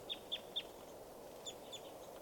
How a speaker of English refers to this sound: And the birds are just fluttering and flying. It's hard to tell who's who. There's got to be at least 30 birds around here.